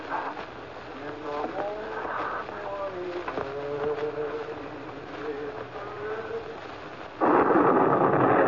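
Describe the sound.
Steady rain hisses throughout while voices talk over it, then the downpour swells abruptly into a loud, dense roar for the final second.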